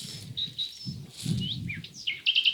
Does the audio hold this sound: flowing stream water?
no